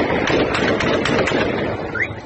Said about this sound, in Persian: این تصاویر وضعیت دیروز یاسوج مرکز استان کهگیلیه و بویر احمد را نشان می‌دهد. حضور سنگین نیروهای امنیتی بعد از این ناآرامی‌ها و برخورد نیروهای امنیتی با معترضان که در پی انتخابات شورای شهر یاسوج پیش آمد. در این تصاویر صدای تیراندازی هم به گوش می‌رسد.